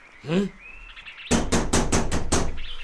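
A quick run of about six loud, evenly spaced knocks on a door, close and sharp, coming right after a brief high-pitched chirping sound.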